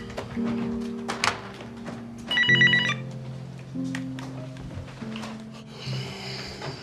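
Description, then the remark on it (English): A short, bright burst of telephone ringing sounds midway through, from a phone in a home kitchen, over a soft, sustained musical background with a few light knocks and taps. No one speaks. “Hesitantly, he grabs the phone.”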